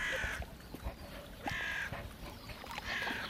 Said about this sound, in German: Krähen sitzen in den Bäumen außen herum.